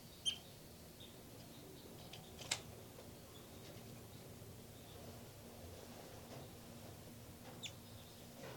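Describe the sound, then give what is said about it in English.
Newly hatched baby birds call from a nest in a few faint, thin, high-pitched peeps, scattered sparsely over a steady low hiss with long quiet gaps between them. “Back to the nest. Where the baby birds are calling.”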